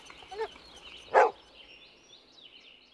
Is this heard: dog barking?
yes